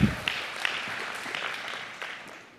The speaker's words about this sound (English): But when push comes to shove, we have a much better teammate named Jesus who has already provided for us lavishly. We can clap about that.